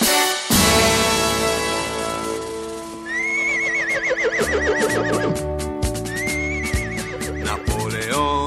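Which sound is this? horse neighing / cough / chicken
horse neighing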